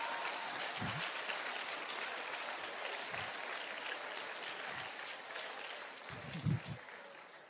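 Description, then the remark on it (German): Steady audience applause for a young man during a lecture, a dense wash of clapping that fills the whole clip at an even level, with a few brief low thumps or murmurs poking through near the end. “Applaus für den jungen Mann.”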